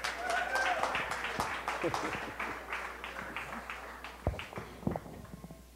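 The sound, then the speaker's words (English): A church audience applauds with dense, steady clapping and some scattered voices. The applause thins out toward the end, leaving a few louder isolated claps. “Now, how come only like four people got excited earlier, but when I say that, everybody's cheering?”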